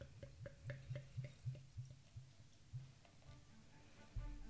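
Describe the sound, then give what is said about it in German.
An organic Pilsner beer from Frastanz in Vorarlberg, Austria, glugs out of a bottle into a glass in a steady run of soft, hollow gulps, about a dozen in a few seconds, fairly quiet with no talking. “Und gieß uns mal einen Schluck ein.”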